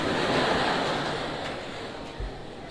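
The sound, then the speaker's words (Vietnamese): A dense burst of applause from many hands for an answer, a steady wash of clapping that slowly tapers off over a few seconds, with no voices. “Một tràng pháo tay cho câu trả lời tuyệt vời này.”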